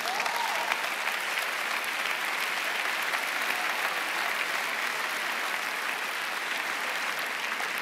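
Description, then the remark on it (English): A crowd at Cedarville University breaks into steady, dense applause that holds at an even, loud level throughout, a continuous wash of clapping hands with faint cheering from a group of OP guys mixed in, welcoming a newly introduced university leader, with no speech. “You got a cheering group right up here with the OP guys.”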